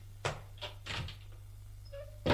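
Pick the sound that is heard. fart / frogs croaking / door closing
door closing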